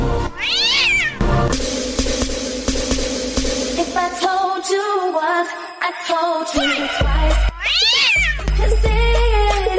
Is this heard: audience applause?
no